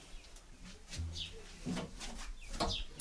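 Pigeons coo in low, throaty bursts inside a loft where 11 pigeons have returned from a flight of about a kilometre, with soft shuffling and scratchy rustles and a few brighter chirping sounds in between.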